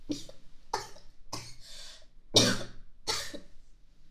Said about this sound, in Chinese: 不行，没得商量。你刚才不是看到我咳嗽了吗？不行，假装。不是假装的，是真的咳嗽。